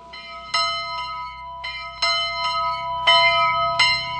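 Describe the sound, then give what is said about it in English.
A century-old bell in the steeple of a little schoolhouse in California, used to call children in from recess and to lunch, rings repeatedly in an irregular rhythm, each strike ringing out with long, overlapping metallic overtones. The tolling is loud, with no voices. “It's a bell that calls the children in from recess and lets them know when it's time for lunch.”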